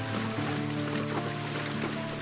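In the early morning, a man leads a stallion by the bridle through river water, with steady sloshing and splashing over a constant rushing flow and a faint low hum, all even in loudness.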